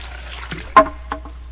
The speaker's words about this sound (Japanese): おかえりなさい、今なんかすごい水音がしたよ。 え？ チャララララとかすごいなんか涼やかな水の音がしてびっくりした。